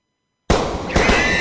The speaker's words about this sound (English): That's the sound no one wishes to hear, especially in the peaceful and tranquil space of a learning center or in other soft target areas. But with Eagle, it's able to hear the muzzle blasts of the firearm, discern what model and caliber the weapon is